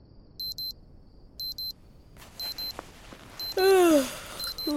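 An alarm clock rings in a tent at a camp shortly before 11 o'clock, beeping in repeated short double bursts of high electronic tones, steady, while rustling and a brief voice-like sound rise up underneath toward the end.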